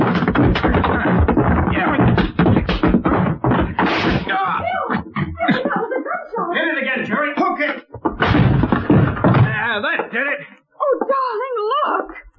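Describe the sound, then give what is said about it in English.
Heavy, repeated thuds and cracking crashes of a door being forced open, loud, broken by a person's anguished moaning and wailing in between. “let's see if we can strain the door.”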